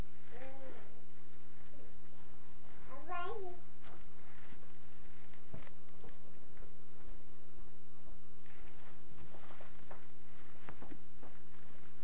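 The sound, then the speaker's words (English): A cat lets out a couple of short meows, one early and one a few seconds in, while being told to scoot over as a bed is being made, over a steady electrical hum and faint household sounds. “Say, scoot over, kitty.”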